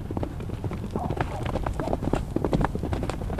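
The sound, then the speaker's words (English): Hooves of a young Arabian gelding clip-clop in a quick, steady series of sharp knocks, moderately loud, with a low rumbling background underneath. “This is Mo. Mo is brand new to Horse Hill. He's a young Arabian gelding.”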